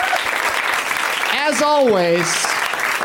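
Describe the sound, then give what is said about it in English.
An audience applauds steadily for guests Sam Levine, Kristen Bell, Sarah Paxton and Pat Healy, a dense wash of clapping, with a voice rising over it in a loud whoop or cheer partway through. “One more round of applause for Sam Levine, Kristen Bell, Sarah Paxton, and Pat Healy.”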